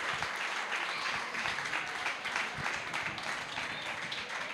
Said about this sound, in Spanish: Un aplauso. Es que miren cómo lee los poemas. La lectura.